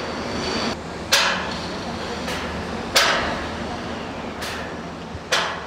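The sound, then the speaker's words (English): Sharp, irregular hammer strikes ring out every second or two against a steady wash of construction-site noise, with a few fainter knocks between the louder blows, as workers build the Grand Ethiopian Renaissance Dam in western Ethiopia. “Scores of construction workers hammer, saw, and weld.”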